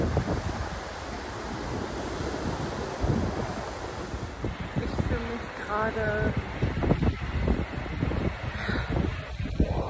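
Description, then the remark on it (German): Steady rush of waves washing in under gusty wind buffeting the microphone, a dense, continuous roar throughout, with a faint voice or call briefly poking through midway. “Ich liebe es, das Wasser zu sehen, wie es sich bewegt.”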